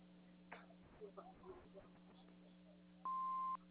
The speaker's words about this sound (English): If you would like to leave a message, please do so after the beep.